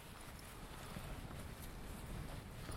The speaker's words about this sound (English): Now it's windy.